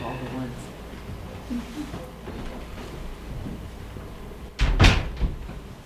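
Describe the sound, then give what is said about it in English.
An open upper door is pushed shut with a loud thud and a brief rattle near the end, following several seconds of quiet background noise and faint voices. “Oh, if we could shut that door.”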